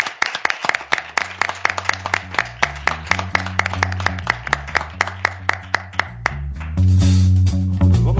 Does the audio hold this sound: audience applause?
yes